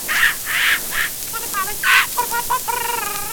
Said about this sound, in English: Hear the parrot.